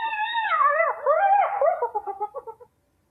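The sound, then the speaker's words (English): A hyena calls alone: long, wavering whoops that rise and fall in pitch, then a quickening run of shorter yelping notes that trails off into silence. “hyena, or finally, this or that seagulls from the beach”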